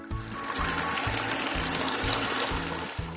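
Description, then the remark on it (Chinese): Water runs steadily from a bathroom faucet that was not turned off tightly, a continuous splashing hiss that fills the whole few seconds, with a soft rhythmic low thumping pattern underneath. “忘了关灯，水龙头也没有关紧。”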